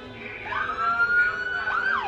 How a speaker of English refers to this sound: At one point, the protesters start to walk down Shelbyville Road. Police cars follow behind with their sirens blaring.